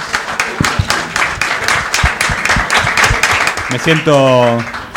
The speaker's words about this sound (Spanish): Les pido un aplauso gigantesco para la gente de UMA y Bola Sin Manija, por favor.